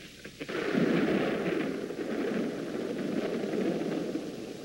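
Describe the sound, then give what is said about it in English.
A loud roll of thunder starts after a brief quiet moment and keeps rumbling steadily for several seconds, a deep, continuous roar with no voices over it. “I've always been afraid of thunder and lightning since I was a little girl.”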